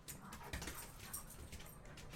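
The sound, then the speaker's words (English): A pet dog tussling with a pet raptor: faint whines and yips mixed with scuffling, scrabbling noises over a steady low hiss, with no one talking. “In the background, you're hearing my raptor battling my dog.”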